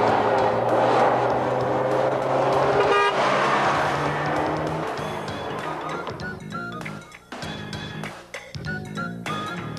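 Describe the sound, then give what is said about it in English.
A car drives along with steady road and wind rush, while other vehicle horns toot in short, sustained blasts over the traffic noise; no one speaks. “But when I'm all by myself with the top down, it's relaxing.”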